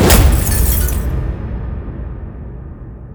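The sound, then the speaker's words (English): A sudden, loud smash as a guard punches his fist through plexiglass and it shatters, a bright crackling burst that fades within a second into a low, rumbling tail of settling debris. No voices. “The guard's voice echoed out, shakily and unnatural in its pitch, before he shoved his fist through the plexiglass.”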